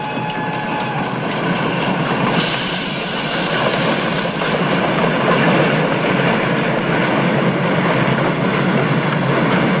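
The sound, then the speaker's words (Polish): An international express train from Berlin rolls in at the track by platform 3 with a loud, steady roar of wheels and rumbling carriages, a harsh metallic hiss swelling brighter after a couple of seconds and holding to the end. No voices. “Ekspres międzynarodowy z Berlina wjedzie za chwilę na tor przy peronie 3.”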